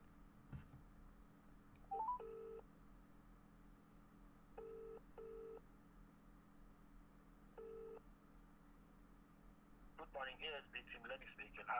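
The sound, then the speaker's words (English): Several short electronic tones from a phone being dialed to call someone again, coming in separate beeps and pairs over a low background hum, followed near the end by a brief burst of busier, clattering sound. “I'm going to attempt to ring him again”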